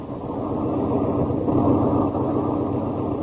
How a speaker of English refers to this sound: Tonight's file opens on a lonely mountain road in a northwestern state. The blackness of the night breeds quiet, the only sound for miles around being made by an ancient car whizzing along the highway.